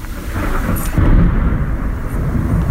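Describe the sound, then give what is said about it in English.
A deep, rolling rumble of thunder swells and lingers over a steady hiss of falling rain at 10:30 in the morning, with 22 degrees outside; loud, with no voices. “It's 10:30 and it's thundering and raining.”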